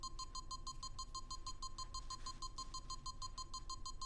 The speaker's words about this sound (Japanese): 自由のない状態で無機質なビープ音に管理されている。受刑者のチンポへと単調に繰り返される音。